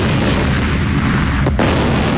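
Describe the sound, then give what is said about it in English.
A loud, dense barrage of explosions merges into one continuous, booming rumble, heavy in the low end, with a brief dip near the end before the blasts roll on. “All right, how about the sounds of multiple explosions?”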